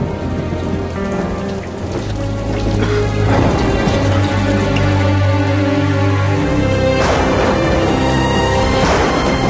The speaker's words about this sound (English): Outside, lightning flashes over the prison's gothic facade. Rain splatters the puddles in front of E Block.